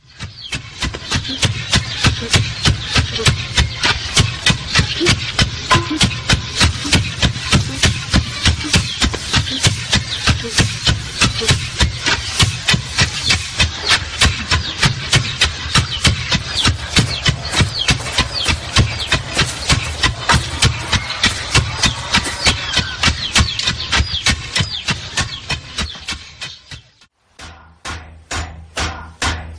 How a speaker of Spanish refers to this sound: e inmediatamente después tres hombres golpeando con hierros otro hierro al que le están dando forma con esos golpes. Escuchen la relación entre ritmo, movimiento, trabajo y música.